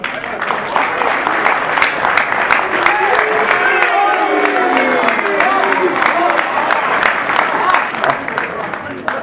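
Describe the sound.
Sustained, dense applause from a large audience, a steady wash of many hands clapping at even loudness for about nine seconds, with faint murmured voices and a few tonal sounds mixed underneath.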